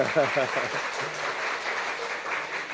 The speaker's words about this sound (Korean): 자, 박수해 주세요.